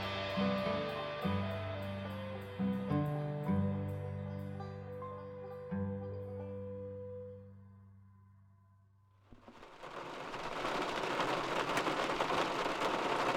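A gentle melodic passage fades out, then steady rain sets in on a spring morning: a soft, continuous hiss of falling rain that fills the last few seconds, even, with no voices.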